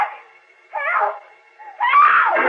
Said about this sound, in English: Suddenly he hears Lois's faint, far-off scream for help.